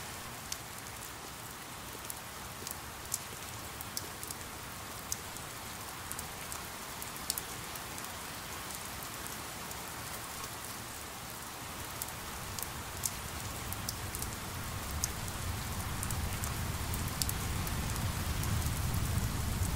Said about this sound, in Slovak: Máme chvíľku dažďa v Rádiu Štúrko a chceme si zaspomínať na dažde a dnes sme ho nemali, tak toto je dažď z Rádia Štúrko.